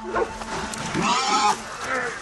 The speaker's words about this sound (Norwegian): Det er så mange bikkjer på.